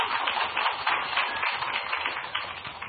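A crowd claps steadily throughout, a dense wash of many overlapping hand claps at an even, moderate loudness, with no voices standing out.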